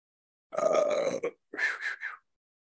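belch

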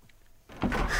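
door being closed

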